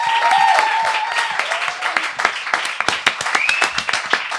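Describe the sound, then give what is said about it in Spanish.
An audience welcoming a comedian onto the stage breaks into loud, dense applause with a few high whistles and cheers mixed in, the clapping thinning out toward the end into sharper, more scattered claps. “Y quiero que recibiráis con un aplauso gordísimo, como el planeta Nibiru, al 50% del podcast Odio a la Gente, la humorista y experta en reptilianos por un día,”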